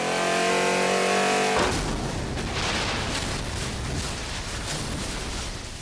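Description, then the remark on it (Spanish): A luxury car's engine roars as it accelerates to 180 kilometres per hour, a steady revving whine for the first seconds, then breaking into loud, rushing, roaring noise as the vehicle tears past, intense throughout. “acelera a 180 kilómetros por hora”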